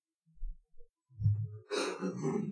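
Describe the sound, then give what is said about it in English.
A couple of low, muffled grunts or throat rumbles build into a big, harsh, rasping cough that bursts out loudly and rattles on for nearly a second, with no talking. “has got some big coughs today.”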